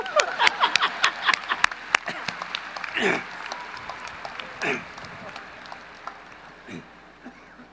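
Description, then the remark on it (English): An audience applauds fathers, a dense patter of many hands clapping that starts strong and gradually thins out, with a few scattered claps and murmurs trailing off at the end. “So maybe we can clap fathers a little bit too.”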